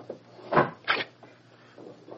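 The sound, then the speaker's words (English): A study door opens with two quick, scraping bursts of wooden movement, a low steady hum underneath and faint shuffling afterward; no one speaks. “Here's a study door, and it's open.”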